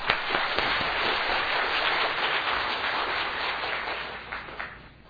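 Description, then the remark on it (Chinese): A church audience applauds to welcome newcomers, a dense, steady patter of many clapping hands that holds for several seconds and then gradually thins out and fades. No one speaks. “好，我们鼓掌欢迎。”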